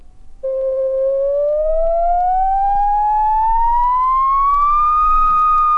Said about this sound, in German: der Summton immer auf H, weshalb nicht auch mal auf Fis oder E, Des oder C. Dem wollte ich künstlich nachhelfen. Ich nahm also den Summton und veränderte ihn so, indem ich die Bandgeschwindigkeit dementsprechend wählte. Mal schneller, mal langsamer.